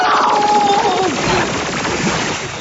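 A loud, sustained blast of sci-fi laser fire from a cannon, standard defensive anti-theft equipment, tears through a roof, whining tones sliding downward over a dense roar of crackling, rumbling destruction that barely fades across the whole moment.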